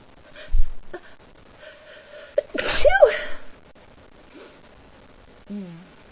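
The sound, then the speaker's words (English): A single loud sneeze bursts out in the middle after a brief sharp intake of breath, surrounded by quiet breathing and a few faint vocal murmurs. “I keep feeling like I have to sneeze, but I don't think it's coming out.”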